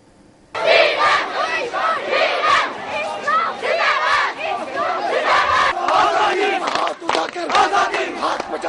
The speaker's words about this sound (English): Well, in Indian-controlled Kashmir, thousands of people have poured onto the streets to protest the continuous civilian killings in the region.